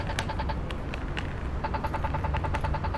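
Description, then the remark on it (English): A pedestrian crossing push-button signal at a crosswalk beeps in a steady, rapid rhythm. After a short pause the ticking quickens, over a constant low rumble of traffic. “This button's easy to hear, but let's say it wasn't.”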